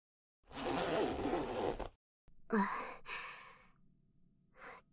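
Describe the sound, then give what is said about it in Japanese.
A long breathy exhale, then a trouser zipper pulled down in two quick ratcheting strokes, fairly loud, with a brief final rasp near the end. No talking. “チャックを下ろしたら勃起したの飛び出してきた。”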